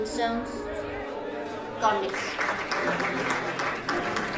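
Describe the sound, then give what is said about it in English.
A sung or held musical note fades out, then a crowd breaks into applause for a woman's first song, a dense, steady wash of clapping that keeps going at a fairly even loudness to the end. “There is a lot of applause for her first song.”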